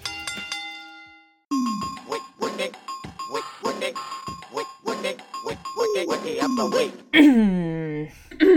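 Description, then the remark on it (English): A single clear bell strike rings out and fades over about a second, then a brief pause before lively voices talking over one another take over. “Now ring the bell.”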